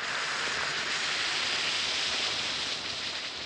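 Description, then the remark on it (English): A steady, dense hiss of fizzing bubbles from one or two Alka-Seltzer tablets dissolving in a glass of water, crackling evenly and brightly for several seconds without any voices. “Just drop a tablet or two of Alka-Seltzer into a glass of water and listen to it fizz.”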